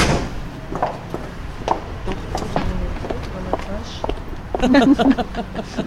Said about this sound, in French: Je vois que la porte est blindée. La porte est très lourde.